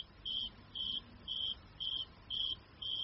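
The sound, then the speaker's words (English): A cricket chirps steadily, six evenly spaced high-pitched trills in about three seconds, each a short buzzy pulse, over a soft background hiss with no voices. “To make a baffle, the cricket carves a small hole in the center of a leaf and sticks its body halfway through.”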